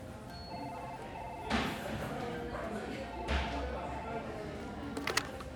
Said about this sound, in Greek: Μία μέρα έλαβα ένα τηλέφωνο. Δηλαδή, όπως καθόμουν στο γραφείο, χτυπάει το τηλέφωνο.